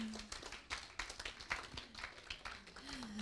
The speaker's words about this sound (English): Give him a clap.